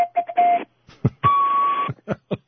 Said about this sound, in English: Mr. Two-Tone Foghorn. That's the feeblest foghorn I ever heard. Well, actually, it's a legitimate one. I'm not really blowing it the way it should be blown. It was actually used on 19th century ships.